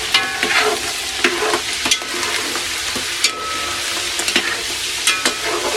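Duck, nearly done, sizzling steadily as it fries in fat, a dense crackling hiss punctuated by sharper pops and the occasional scrape of stirring, with no voices.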